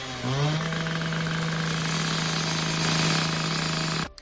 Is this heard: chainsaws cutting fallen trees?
yes